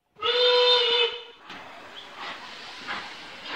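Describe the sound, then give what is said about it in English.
A loud steam train whistle blows once, a bright harmonic blast lasting about a second, then gives way to hissing steam and the rumbling clatter of the train moving along on its way to the park. “Papa John and Little John take the train to the park.”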